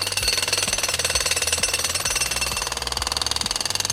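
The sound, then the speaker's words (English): A rapid, rattling jackhammer noise made by a voice, loud, hammering steadily for several seconds with a gravelly, buzzing rhythm and no other talk. “Oh, I love it when I get to be the jackhammer.”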